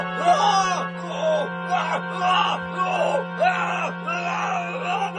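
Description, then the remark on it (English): A man, the film character Voronov, screams and wails in repeated anguished bursts in a scene with an atomic octopus, each cry rising and falling in pitch, loud, over a steady low electrical hum. “Voronov screams as he's savagely untouched by the perpetually lifeless atomic octopus.”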